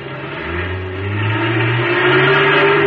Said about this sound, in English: Still had about 100 yards to go when the truck roared up and started pulling itself loose from the wrecked car.